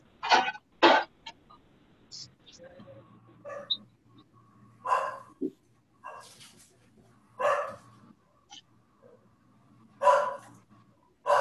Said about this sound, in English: you can hear your dogs on here barking.